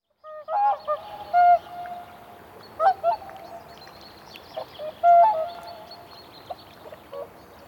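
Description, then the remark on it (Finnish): Whooper swans calling in a loose series of loud, bugling honks with a nasal, trumpet-like tone, several overlapping, over a soft steady hiss with no talking. “Nykyään Suomessa pesii laulujoutsenia reilusti 20 000 paria, ja laji katsotaan elinvoimaiseksi.”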